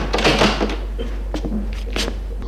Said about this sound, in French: La porte du salon vient de s'ouvrir.